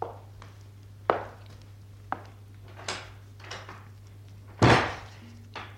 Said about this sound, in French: Je vais entrebâiller la porte. Il y a juste assez de place pour moi.